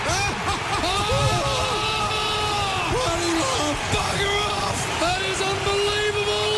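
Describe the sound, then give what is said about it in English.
A huge football stadium crowd at an elimination final roars and yells continuously as a long kick heads toward goal, many voices whooping and bellowing over one another in a loud, sustained wall of noise with rising shouts throughout. “Have a listen to the crowd if this goes through.”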